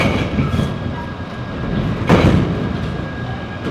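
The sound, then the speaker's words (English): A steady low mechanical rumble with a faint high whine, broken by a single heavy metallic slam as a modern electric crane at the Port of Jacksonville drops a shipping container onto a truck, then the rumble carries on. “The modern electric cranes are pretty quiet at the Port of Jacksonville, except when they slap the containers on the trucks.”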